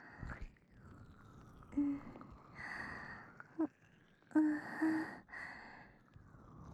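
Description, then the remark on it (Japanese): Soft, sticky squelching and rubbing of ointment being massaged into ears, coming in slow, uneven waves with brief wet smacks and breathy friction, quiet and without any talking. “耳をねばついた薬で揉まれる音はきちんと聞こえているか。”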